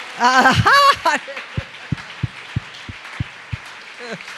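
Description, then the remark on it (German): A voice calls out, then a short run of about seven steady, evenly spaced claps, like a group clapping in unison as a clap offering to the Lord, before speech starts again at the end. “Gebt dem Herrn einen Klatschopfer.”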